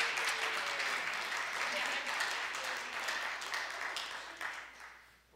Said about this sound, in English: Let us now welcome them into our membership. So if you approve, if you think this is a good thing, why don't you go ahead and clap for us? There you go.